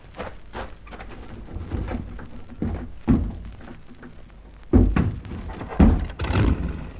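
A car boot is opened and a rope pulled out: dull thunks and clunks at irregular intervals over steady rustling and handling noise, with no voices.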